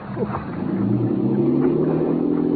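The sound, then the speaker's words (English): A motorboat engine drones steadily with a low, rumbling hum and shifting harmonic tones, loud, as the boat pulls away, with no voices. “There goes that luscious cookie Sarja with the boat.”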